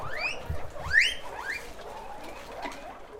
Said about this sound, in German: Darin quieken zufrieden mehr als 300 Meerschweinchen.